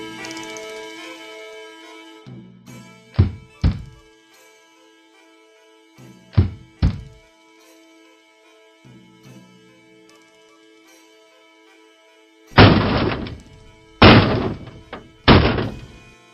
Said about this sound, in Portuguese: Por que é que você está batendo na minha porta?